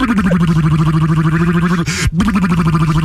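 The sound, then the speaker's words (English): A voice imitates a motorboat with a steady, buzzing lip trill at a low, even pitch, pulsing rapidly for about three seconds, on K-Rock 96.5 Los Angeles radio. It breaks briefly for a quick breath, then carries on. “Bringing you the best motorboat sounds of the 70s.”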